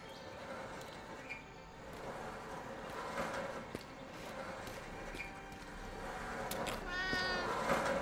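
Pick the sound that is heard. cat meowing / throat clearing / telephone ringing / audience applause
cat meowing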